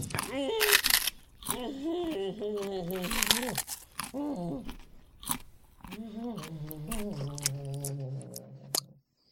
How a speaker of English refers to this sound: And now, me softly chewing a wasabi Kit Kat.